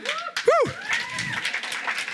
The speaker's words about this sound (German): Ja, ich habe gehört, jemand klatschen.